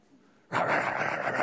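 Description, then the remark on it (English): After a brief quiet moment, a person loudly imitates a dog's bark with one harsh, sustained, rough-voiced burst lasting about a second. “Have you ever come to a yard and the dog's barking loudly?”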